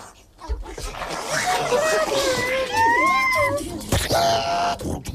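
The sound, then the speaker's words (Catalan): A voice imitates laboratory machinery starting to fail, with warbling, sliding whistle-like tones, rattling sputters and a sharp burst near the end, fairly loud and continuous for about five seconds. “En canvi, si aquesta maquinària comença a fallar...”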